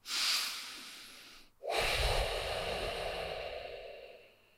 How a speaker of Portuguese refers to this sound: A respiração do nariz, mais uma vez a experiência.